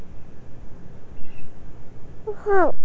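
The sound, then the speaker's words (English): A blue jay gives a single harsh, descending jeer call near the end, clear over a low, steady outdoor rumble, with a faint earlier note barely audible. “Do you hear these birds? Blue jays.”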